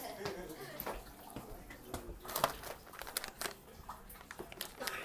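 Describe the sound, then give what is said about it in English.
Steady crinkling and rustling of a cat food package being handled as someone gets ready to feed cats, with irregular crackly bursts throughout and a few sharper crunches, at moderate volume. “Some cat food.”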